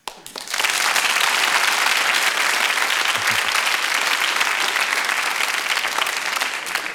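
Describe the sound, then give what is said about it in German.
Sustained applause from an audience, a dense crackle of many hands clapping that swells in quickly and holds at a steady, loud level for several seconds. “Könnte ich mal einen Applaus haben?”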